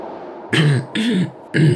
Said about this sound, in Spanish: Carraspeó tratando de buscar las palabras precisas.